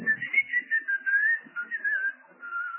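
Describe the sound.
Someone whistles a short, wandering tune on their own, clear, the pitch sliding up and down through a few connected phrases with brief breaks between them.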